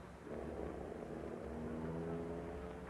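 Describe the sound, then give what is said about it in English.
A car engine drones steadily with a low, rumbling hum and rising tonal whine as gang leader Blackie Owens gets back in the car and drives away along a branch road, staying fairly loud throughout with no voices. “He's getting back in the car. He's driving away.”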